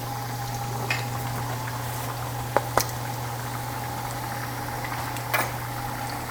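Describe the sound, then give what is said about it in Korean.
Steady sizzling and hissing of dough wrappers frying crisp in an oiled frying pan, with a continuous low hum underneath and a few sharp crackles and pops standing out, no voices. “프라이팬에 바싹. 어쩔 수 없이 기름을 좀 넣긴 해야겠네요.”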